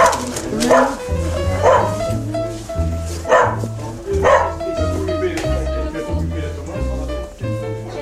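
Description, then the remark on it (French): A dog barks repeatedly, about five sharp, loud barks spaced a second or so apart, over a steady background of low, sustained musical tones. “Il aboie trois fois par an, ce chien.”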